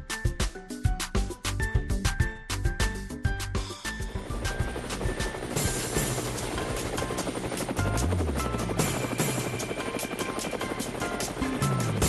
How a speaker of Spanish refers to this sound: Bueno, amigos de Cuba, hoy sí el helicóptero es de verdad,